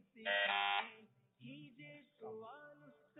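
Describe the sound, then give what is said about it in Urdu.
A loud, brassy quiz buzzer is pressed once on a Madani Channel quiz programme, sounding for under a second near the start, followed by quieter, shorter tonal sounds that could be voices. “Out of syllabus سوالات بھی ہو سکتے ہیں, تو بڑے غور سے دھیان سے سوال سن کر بزر بجانی ہے, سوچ سمجھ کر بزر بجانی ہے.”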